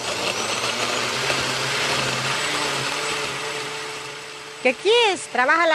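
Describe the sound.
An old, clunky blender whirs loudly and steadily with a rough, rattling motor drone for several seconds while mixing up a zesty salsa in a home, then winds down as a voice briefly speaks near the end.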